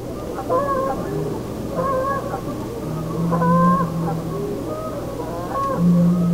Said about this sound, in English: The geese call out.